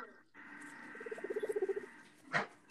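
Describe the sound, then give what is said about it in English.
A guinea pig makes a soft, rapid purring-like chatter while being scratched, a run of about a dozen quick pulsing bursts that swell then fade, with a faint steady hum behind and a brief rustle after. “That's the sound when I scratch them. That sounds like a cat purring.”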